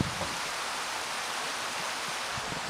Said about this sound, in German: Da draußen fließt direkt vorm Fenster vorbei ein kleiner Fluss. Wer ist das? Oder welcher Fluss ist das? Ja, das ist der Altbach.